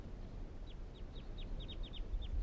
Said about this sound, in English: Recording the birds calling now again.